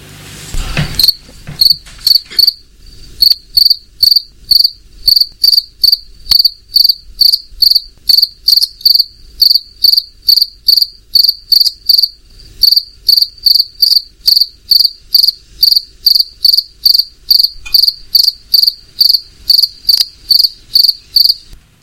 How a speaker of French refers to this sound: Évidemment, il s'agit du grillon qu'on peut entendre de jour comme de nuit en ce moment par ses fortes chaleurs.